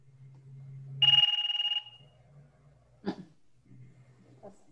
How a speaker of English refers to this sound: That sounds like a British telephone. This is the Seoul Metro failure.